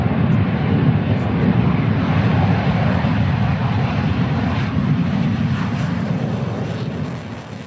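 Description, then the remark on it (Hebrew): Two Syrian MiG fighter jets roar overhead, flying over soldiers of Battalion 352, in a loud, continuous rumbling drone, heavy in the low end, holding steady throughout before easing slightly toward the end. “למחרת בבוקר ראה אחד החיילים שני מטוסי קרב סורים טסים מעליהם וצעק מיגים.”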